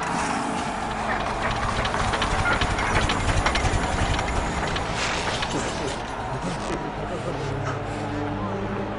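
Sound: truck pulling up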